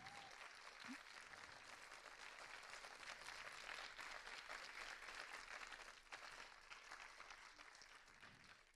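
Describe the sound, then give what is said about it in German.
An audience applauds the event's organizers steadily, a dense wash of many hands clapping at an even, sustained level for several seconds before easing off slightly toward the end. “Einen großen Applaus bitte für die Orga-Menschen.”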